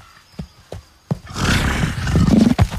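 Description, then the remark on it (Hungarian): A loud, drawn-out stomach growl that rumbles low and wavers in pitch for over a second, preceded by a few soft taps. No one speaks. “Csak a gyomrom.”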